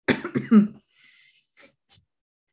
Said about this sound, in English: I'm still recovering, so you're going to hear me cough.